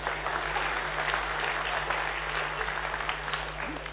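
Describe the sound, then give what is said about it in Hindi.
An audience claps steadily for about four seconds, a dense, even patter of many hands at moderate loudness with no voices on top, fading only slightly at the end. “बहने ताली नहीं बजाती है.”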